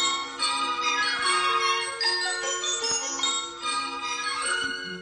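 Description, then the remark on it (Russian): Many small bells tinkle continuously in a bright, shimmering cluster, their ringing overlapping with no clear beat. The sound is fairly loud, with no voices. “И у вас целый день музыка! Динь, динь, динь!”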